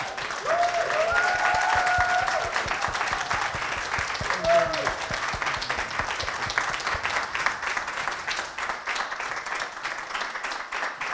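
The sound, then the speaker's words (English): An audience applauds steadily for about eleven seconds for Melvin Bragg at the end of an interview, a dense, even patter of many hands clapping, with a few brief tonal cheers or whistles rising above it early on. “And so we really do applaud you.”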